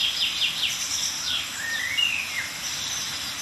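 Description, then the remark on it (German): Thin, high-pitched bird calls from several tits around the listener, a few short notes and slurred chirps as contact and mild alarm calls, scattered over a steady background hiss with no talking. “Aber wir hören ein paar Kontaktrufe oder milde Aufregungsrufe einiger Meisen um uns herum.”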